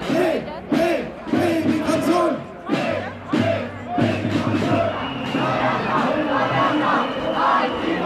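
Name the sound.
protest crowd chanting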